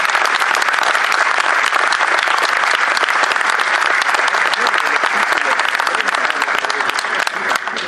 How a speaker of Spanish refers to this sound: Un aplauso para ellos.